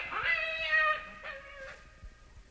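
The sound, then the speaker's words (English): A black cat lets out a long, drawn-out meow followed by a shorter second yowl, clear, with no one talking over it. “Scat, you black fiend!”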